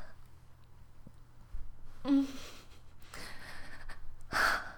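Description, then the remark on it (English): A woman gasps several times, sharp breathy intakes of air spaced irregularly over a few seconds, with a soft voiced catch in one and a louder, airy gasp at the end. No words are spoken. “And you know that because you can tell by my gasping.”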